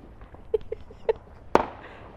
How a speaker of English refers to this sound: We used to have this firework that I really liked in particular. It was called Thunder in the Blue Sky. And it used to sound like that, one really big bang every, like it was just one though in the firework. It was a massive firework.